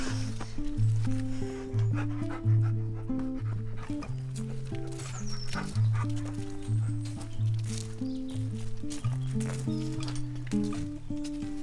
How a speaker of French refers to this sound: On arrive devant un grand hangar avec une énorme porte entrouverte. Il y a un chien qui vient me dire bonjour.